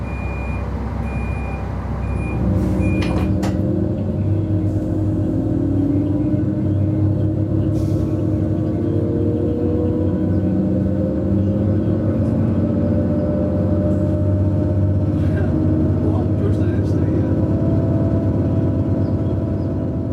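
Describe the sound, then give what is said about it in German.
A steady, loud low rumble of a moving train heard from inside a carriage, with droning motor tones, a brief high beep near the start and occasional faint clicks and clatter. “Und mit ihm habe ich mich getroffen, in einem Zug natürlich, für den MDR Thüringen-Podcast Abenteuer Eisenbahn.”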